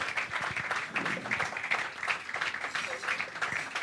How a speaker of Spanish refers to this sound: Muchas gracias. Esos aplausos para mi mamá, muy amables.